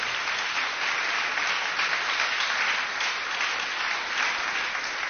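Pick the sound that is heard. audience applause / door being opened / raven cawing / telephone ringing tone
audience applause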